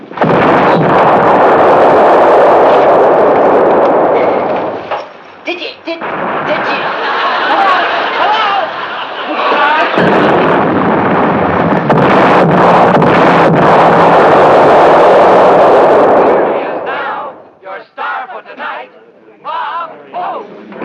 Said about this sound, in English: Well, it has nothing to do with the shelling.